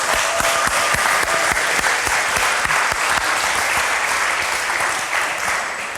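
An audience claps steadily for several seconds, a dense wash of many hands with sharp individual claps standing out, staying loud before easing off slightly at the end. No one speaks.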